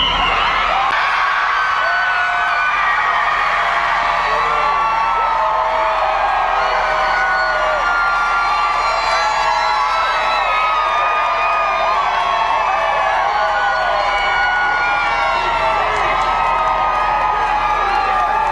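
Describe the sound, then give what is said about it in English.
A large crowd cheers and whoops continuously as the not-guilty verdict for Karen Reed is announced, high excited shouts and yells overlapping in a dense, loud roar that holds steady without a break. “Well, I mean, from their perspective, they're cheering because they believe an innocent woman just beat police corruption in a cover-up.”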